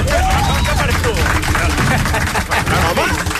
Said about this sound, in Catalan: Pam, com us heu quedat? Un aplaudiment per mi.